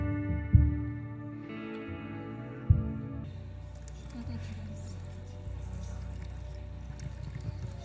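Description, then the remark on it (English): After a soft sustained tone and a couple of dull knocks, water pours out in a steady, splashing stream that continues to the end, moderately loud, as water is symbolically poured over two people during a prayer. “Father, as we have symbolically poured out of this water on”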